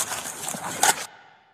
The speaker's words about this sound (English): a harmless acorn falling innocently onto the roof of his patrol car